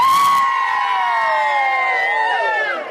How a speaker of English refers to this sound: can we give us a big cheer, everyone, for ABC Radio?